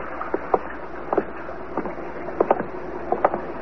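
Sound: boat on water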